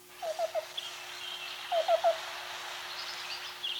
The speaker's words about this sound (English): Hardly anyone notices cuckoos unless there's an outbreak of tent caterpillars. The black-billed cuckoo is one of the only species of birds that will eat these pests, and it's another bird that says its name.